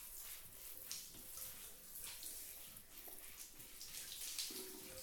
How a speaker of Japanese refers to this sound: それじゃあお姉さん、お湯で泡洗い流してあげる。温かいお湯って気持ちいいよね。疲れた心と体を癒してくれる。